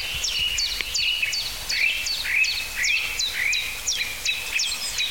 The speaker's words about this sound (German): Oh, das war fast so ein Amsel-Duck, Duck, Duck, Duck. Hui, hui, hui. Sehr gequetscht.